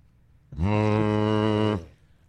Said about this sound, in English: What was it like for Brady? Third down to hear that foghorn go off.